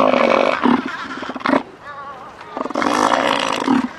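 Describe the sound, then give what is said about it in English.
A very big elephant seal of about 1,500 pounds, hauled out on the rocky beach of a small island off the west coast of Antarctica, bellows twice, deep rumbling roars with a guttural, throaty pulse, separated by a brief lull filled with softer grumbling. “Just off the west coast of Antarctica, a very big elephant seal is hauled out on a very small island.”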